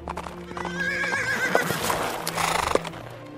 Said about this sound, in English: Meanwhile, the prince rode up to the tower on his horse.